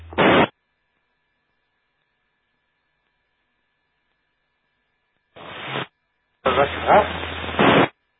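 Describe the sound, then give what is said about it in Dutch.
Short bursts of a weak radio transmission relayed through a radio relay come through heavy static and low hum, a faint voice barely emerging from the noise, with long stretches of silence between bursts. “Vraag was mij, je zit nog vrij ver in de ruis.”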